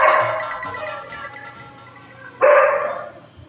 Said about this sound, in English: I hear a dog. Of course. Of course. The when I come on live, somebody's at my door.